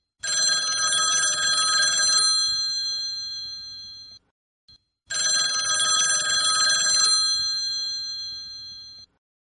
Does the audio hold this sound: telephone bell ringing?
yes